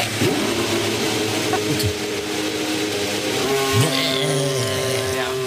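An AlphaTauri Formula 1 race car engine idles with a rough, buzzy drone, its pitch wobbling and briefly blipping up a couple of times, loud with a faint voice underneath.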